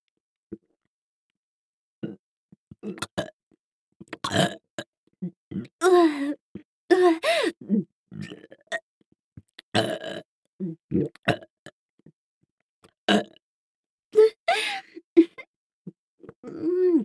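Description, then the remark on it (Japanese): A string of close, wet burps and throaty belches, one after another at irregular intervals, sounding right up against the ear with short quiet gaps between them. “耳元ゲップ、失礼しまーす。”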